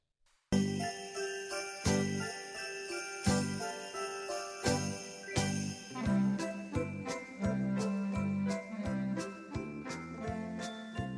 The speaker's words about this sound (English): No, it's too early for Christmas music. I like it, though.